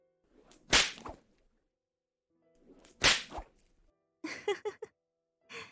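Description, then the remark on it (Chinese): Two loud whip lashes land a couple of seconds apart, each preceded by a short rising swish, followed by a brief burst of short, clipped sounds near the end. “不过这也是呢，毕竟普通的同学可没有经过训练，对于鞭子的力度把握的不是那么到位。”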